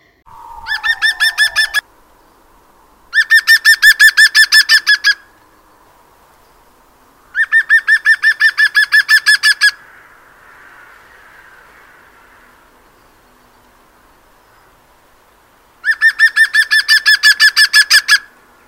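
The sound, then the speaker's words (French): Loud, ringing laughing calls of a green woodpecker (Picus viridis): four bursts of rapid repeated notes, each lasting about two seconds, separated by pauses, with faint background noise in between. “Vous l'avez reconnu, celui qui se moque souvent de vous ou d'un autre oiseau, c'est le pivert.”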